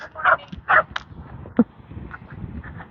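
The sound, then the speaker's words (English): A small collie dog barks in a quick, uneven run of four or five sharp, clear yaps, followed by a faint steady background hum with no talking. “It's that same little collie dog as yesterday.”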